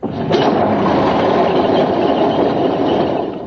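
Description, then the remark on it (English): A petrol engine is started up. It catches with a brief sharp burst, then settles into a loud, steady, rumbling run that continues throughout, with no voices. It runs on the same petrol used in Spitfires. “Right, hold on, everybody. I've got to start her up.”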